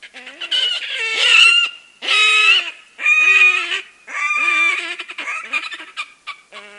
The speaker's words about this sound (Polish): A to dla porównania przemowa perkoza rdzawoszyjego.